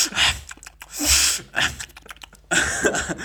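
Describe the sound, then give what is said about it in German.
A voice imitates a father's heavy, snorting breaths in several loud, noisy bursts, like someone huffing hard through the nose while eating, with short pauses between the puffs. “Oder wenn er irgendwas isst, dann schnauft er so richtig doll dabei.”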